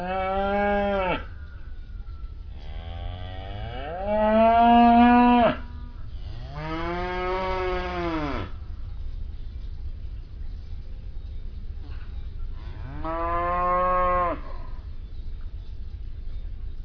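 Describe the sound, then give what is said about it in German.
A cow moos four times in long, drawn-out calls with pauses between, clear, over a steady low background rumble. “Ich habe 1-2 Kühe, das ist spannenderweise ist das scheinbar erblich, weil das ist eine Mutter, die das scheinbar vererbt, die immer so ein bisschen redet mit mir.”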